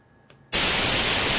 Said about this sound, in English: So here's your white noise.